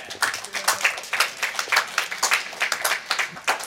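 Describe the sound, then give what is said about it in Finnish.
A crowd applauds during a live Kulttuuri Ykkönen broadcast from Oodi, Helsinki's central library, a dense patter of many overlapping hand claps that swells and dips steadily for a few seconds with no one speaking over it. “Tähän väliin vähän taputuksia.”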